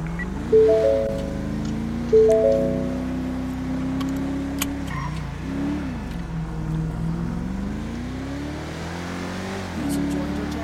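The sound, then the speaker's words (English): A street racing car's engine revs and accelerates on the roads, its pitch climbing, dropping and rising again through several surges, with a couple of sharp louder bursts early on and a steady rumble throughout. “Whoa, this thing goes fast on the roads.”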